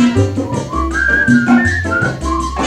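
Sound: human whistling melody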